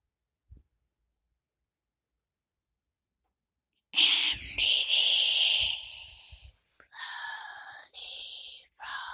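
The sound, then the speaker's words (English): A long, airy deep breath is drawn in through the nose after a quiet stretch during a guided breathing exercise, lasting a couple of seconds, followed by a few shorter, breathy, tonal sounds. “One deep breath, counting 3, 1, from the nose, go. 2, 3, hold it.”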